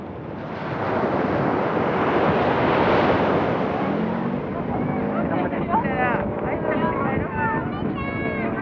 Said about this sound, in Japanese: かつては海岸林を抜けると海が見えていました。今は防潮堤が完成し、波の音が先に聞こえてきます。